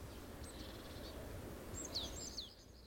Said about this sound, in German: Der Zauber liegt im Ohr, der Lärm der Stadt versiegt, der kleine Vogel wird laut.